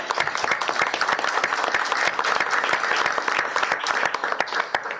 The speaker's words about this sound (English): So can we just give him a round of applause in case he's here?